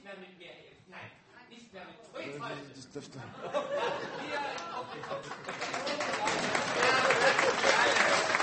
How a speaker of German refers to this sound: Ja, es ist ein Applaus. Nein, das ist mein Applaus.